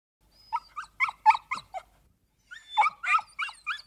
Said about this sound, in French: C'est un chien. Un chien.